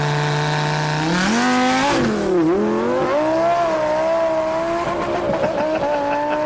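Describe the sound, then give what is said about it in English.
A twin-turbo Lamborghini engine revs hard and loud, its pitch climbing in sweeping surges, dipping briefly, then roaring up again with a raspy, strained edge, with no voices. “Oh, this is my Lamborghini. Damn. It's a twin turbo.”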